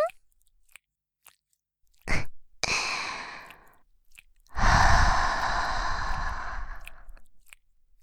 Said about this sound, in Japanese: それにこうして横からぎゅーって抱きしめて逃げられなくしちゃえ。このまま甘々とろっとろのエロい耳なめで脳みそを犯しまくってあげちゃおっかな。